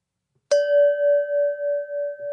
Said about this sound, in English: there's the bell.